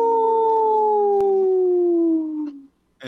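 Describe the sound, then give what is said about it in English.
A person imitates a wolf howl on a radio show segment supported by Howling for Wolves: one long, loud, wavering note that slowly slides downward for nearly three seconds, then breaks off, followed by a brief burst of voice. “This portion of the show is supported by Howling for Wolves, protecting wolves for future generations. Howl! Oh. Howl!”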